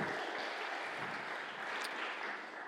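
A steady burst of audience applause for a man called up to help the speaker, dense clapping that holds an even level throughout before easing slightly at the end, with no voices over it.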